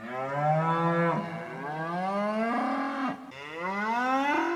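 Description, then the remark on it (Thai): A cow moos three times in a row, each call a long, loud, drawn-out low bellow that rises and falls in pitch, with no talking. “เพราะนักวิจัยเขาบอกว่าตอนนี้น้ำที่สกัดได้จากระบบดังกล่าวนั้นสะอาดเพียงพอสำหรับให้วัวกินเท่านั้นครับ”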